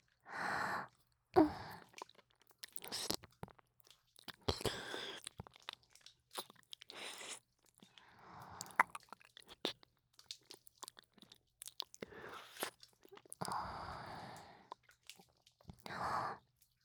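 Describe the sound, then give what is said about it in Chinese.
Chewing and crunching, with irregular bursts of crisp bites and wet mastication, interspersed with breathy sighs and gasps, fairly quiet overall. “剩一半了，吃下去，乖。”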